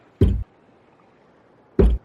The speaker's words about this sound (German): Dann hörst du jetzt Backbord vom Heck ungefähr, also die grobe Richtung, ein Klopfen.